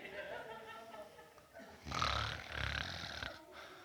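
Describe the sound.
A man's voice imitates loud snoring, a harsh rattling inhale followed by a second drawn-out snore, prominent after a brief stretch of vocal sound.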